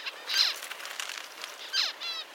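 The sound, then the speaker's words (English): A parent finch calls to its eggs, two bright, high chirping bursts with descending trills, separated by softer twittering, with no voices present. “Scientists are still figuring out how exactly this sound signal from the parents ends up changing their offspring's development.”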